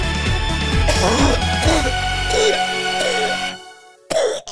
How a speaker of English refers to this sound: What are you coughing for? You smoking too? Yes. Yeah, I'm smoking a blunt. Of course I'm smoking a blunt.